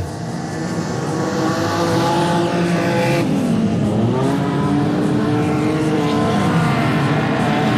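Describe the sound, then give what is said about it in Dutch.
A loud race car, number 123, roars past on a clay track with 8 laps to go, its pitch dropping sharply as it goes by, followed by more engines revving and climbing in pitch, with no one talking. “123 Niels Uffe, die komt hier nou net voorbij.”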